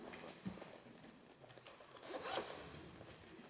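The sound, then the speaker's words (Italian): Rummaging with scratchy rustling and a quick zipper-like rasp as someone changes pens during a class roll call, building to a louder burst midway before settling into softer shuffling; no one speaks. “Scusate, cambio la penna un attimo.”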